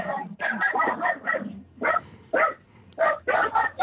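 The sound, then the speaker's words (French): Small dogs yapping and barking in quick, overlapping bursts, fairly loud, like a noisy scuffle between them with short pauses in between. “j'ai des petits chiens qui sont en train de se chamailler.”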